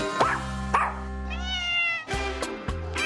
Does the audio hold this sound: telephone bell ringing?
no